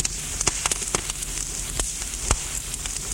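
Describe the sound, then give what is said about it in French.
A wood fire crackles in a fireplace, with sharp, irregular pops and snaps over a steady soft hiss. No one speaks. “Retour de promenade, elle s'assoit près de la cheminée où pétille un bon feu.”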